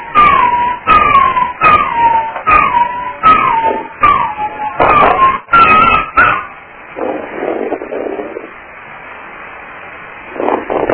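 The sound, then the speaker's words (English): A dog howls along with a siren within 5 miles, a rapid series of short, falling, yelping cries, loud, then trails off into softer, drawn-out whines with no one speaking. “And I have a siren within 5 miles of my dog.”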